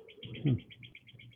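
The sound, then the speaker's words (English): Steady, rapid chirping from birds outdoors, a repeating series of high tweets heard somewhat faintly through a window, with a brief low murmur of sound beneath. “I can hear birds out your window.”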